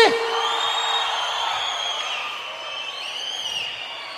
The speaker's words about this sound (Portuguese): Então só dá um gritão aí.